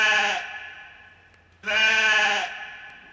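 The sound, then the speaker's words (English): A sheep bleats twice, each baa loud, with a wavering harmonic tone lasting under a second and a short pause between the calls. “He is going to baa with some probability.”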